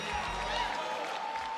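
An audience claps steadily, a dense wash of applause with a faint crowd murmur and a low rumble underneath, holding at a fairly loud, even level throughout.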